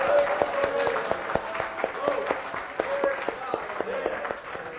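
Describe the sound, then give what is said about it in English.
An audience gives a clap of praise to the Lord, a dense stream of many hands clapping at a steady level for about five seconds, with sharp individual claps standing out and faint voices mixed in. “Let's give a clap of praise unto the Lord.”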